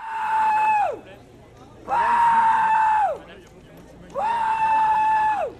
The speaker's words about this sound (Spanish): hoy, se abría una tienda física, ya no por internet, una tienda física en París. Que hoy ha sido recibida así, entre protestas que gritaban hay que proteger a los menores y no a China.